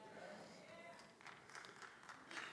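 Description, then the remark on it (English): A lone audience member gives a few slow, soft golf claps, faint, against a quiet murmur. “One golf clap.”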